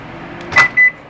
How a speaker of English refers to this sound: Your oven is preheated. Okay, it's preheated. I go over to the rack with the round pan on it. Open the door and slide it in.